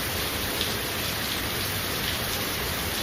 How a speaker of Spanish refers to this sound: O este chaparrón en Rivas.